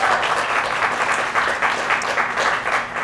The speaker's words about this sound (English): So a round of applause for yourselves as well, please.